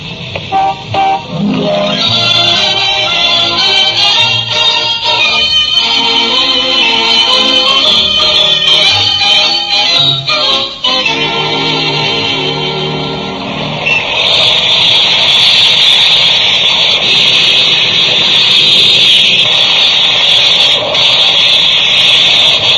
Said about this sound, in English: Boy, that's some size steam shovel. Oh, I don't know. I've seen bigger in my day. That's a pretty big one, Oz. Especially if you get over close to it.